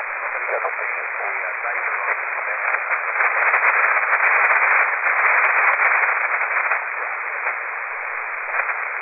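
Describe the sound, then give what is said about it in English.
Continuous band-limited radio static hisses throughout, punctuated by irregular crackling static crashes from thunderstorm interference that swell louder in the middle before settling back to a steady rough noise. “right now I've got static crashes. Must be some thunderstorm activity somewhere that's causing some static.”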